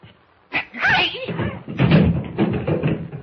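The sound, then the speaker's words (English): A sudden scuffle in the dark on a stairway: a sharp thump opens it, followed by strained grunts and cries and a few seconds of rough, shuffling struggle with scattered knocks, as a man is kicked in the shins. “I kicked him in the shins.”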